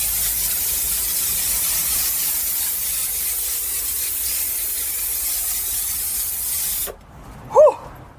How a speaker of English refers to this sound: So we have to make sure that we get rid of all the mites in any enclosures at this time of year. Finish that bottle. Now I'm going to get my spray. Really important not to breathe this in, so I'll hold my breath.